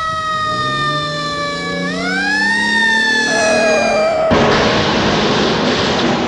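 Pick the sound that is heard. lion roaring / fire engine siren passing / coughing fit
fire engine siren passing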